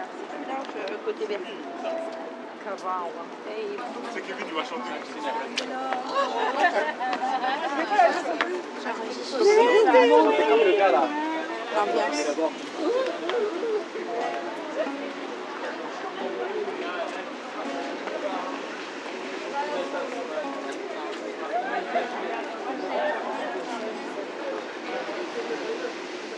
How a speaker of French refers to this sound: C'est comment l'ambiance sur les quais de la Seine. Je vous laisse écouter.